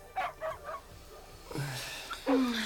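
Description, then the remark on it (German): Two sick sled dogs in a box whimpering and whining, a quick run of short high yelps followed by longer drawn-out whines, with no one talking. “Bedrückt standen sie vor der Box mit den kranken Hunden.”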